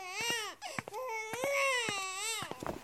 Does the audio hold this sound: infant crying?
yes